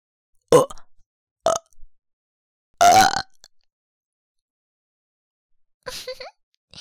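A series of four close, loud burps with uneven gaps between them; the third is longer and drawn out, the last one shorter. No talking.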